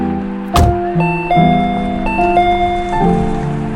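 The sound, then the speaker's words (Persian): A sharp click, then the electronic doorbell of a house, rung by an arriving visitor, plays a short melody of sustained, ringing notes stepping up and down, clear and fairly loud with no voices. “رسیدیم، یادش رو زنگ در رو بزن ماشین رو پارک کنم بیا.”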